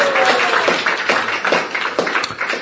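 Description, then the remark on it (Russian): An audience applauds steadily, a dense and fairly loud wash of many hands clapping at once that carries on without a break, with no one speaking over it. “Аплодируем.”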